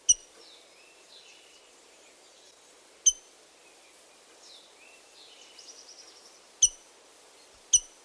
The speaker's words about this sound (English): The rose-breasted grosbeak also has a distinctive metallic chink.